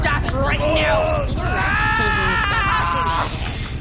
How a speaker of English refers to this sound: That screaming is not from me, though. Who's screaming?